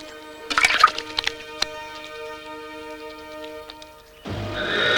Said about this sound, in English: Now she rinses her hands with water from a tall pewter jug.